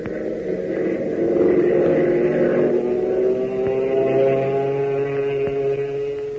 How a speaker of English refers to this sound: Fellas and girls, doesn't the roar of Hop Harrigan's plane make you want to learn to fly? Doesn't it make your fingers itch to get hold of that joystick and feel the thrilling response of the ship to the controls?